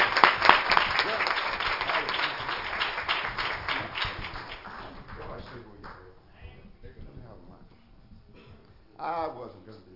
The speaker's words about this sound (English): Praise the Lord. One more hand clap for Jesus.